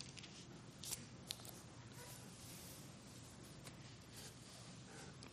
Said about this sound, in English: You know, for a pastor, there's no sound better than the sound of those turning pages. That's a hint. 1 Corinthians chapter 10.